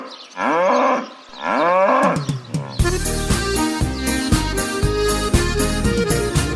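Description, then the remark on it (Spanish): A cow moos twice, two long, loud, drawn-out lowing calls, then upbeat music with a steady beat abruptly takes over. “Esto es una vaca que está paseando por el prado”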